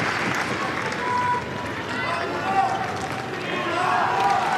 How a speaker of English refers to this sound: The crowd getting involved again, as you can hear.